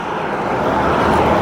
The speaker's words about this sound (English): It has a bicycle lane. But as you can hear, cars and trucks are going really fast right next to me, so I don't like staying on this road any longer than I have to.